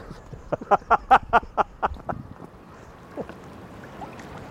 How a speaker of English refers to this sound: I just love that sound, the ebb and the flow of water through seaweed.